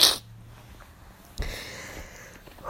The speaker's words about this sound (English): And clearly you can hear I need to blow my nose. But that's nasty.